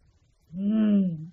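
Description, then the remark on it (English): A single deep growl of a big wolf rises out of near silence, loud, swelling and then easing off over about a second with no voices around it. “At this moment, a big wolf was coming.”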